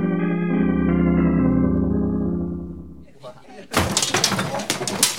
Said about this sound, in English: Who knocked down the display?